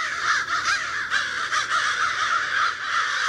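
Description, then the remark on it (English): Several crows caw harshly and repeatedly, their overlapping calls forming a loud, continuous racket with no pauses and no talking. “Three might be a crowd, but a group of crows is called a murder.”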